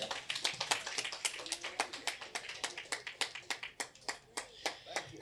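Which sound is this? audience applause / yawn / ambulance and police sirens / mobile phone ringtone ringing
audience applause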